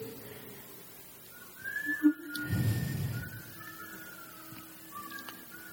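Someone whistles a few soft, drawn-out notes that waver slightly in pitch, fairly quiet, with a brief low rumble partway through and no talking.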